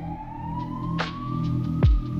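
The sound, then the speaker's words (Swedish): An ambulance siren wails in one long tone that climbs slowly in pitch over a low rumbling background, with a short thump near the end. “Nu på morgonen mår de bättre, men eftersom de är till åren vill de inte chansa med hälsan och ringer en ambulans.”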